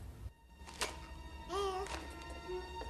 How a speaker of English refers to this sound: A creak outside distracts her again. What a strange old house. So drafty.